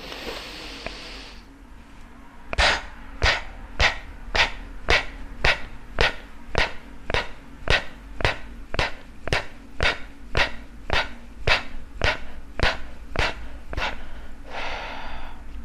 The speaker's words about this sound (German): Eigentlich atmet man dann meist nochmals aus und wieder ein. Ich zeige es dir mal vor oder mach's dir vor.